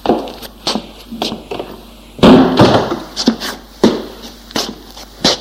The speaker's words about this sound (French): Il fait rentrer son fils et ferme la porte.